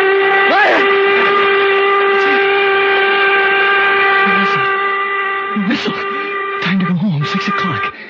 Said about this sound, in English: Slept right through. And the whistle woke me up. It woke me up.